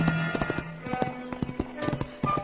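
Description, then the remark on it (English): Hooves of a roan horse carrying a rider clip-clop in a steady, uneven rhythm on a trail in New Mexico, sharp hollow knocks that are fairly loud, with no talking over them. “The trail had been long, over 100 miles into New Mexico in 3 days, and he and his horse both needed a rest.”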